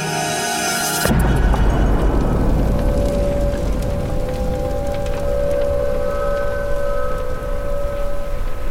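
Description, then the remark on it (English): A brief high, hissing screech of a falling bomb cuts off into a loud explosion, followed by a long, heavy rumble with faint ringing tones and crackling debris. “As I pull the door shut, I can hear the dizzying screech of a falling bomb.”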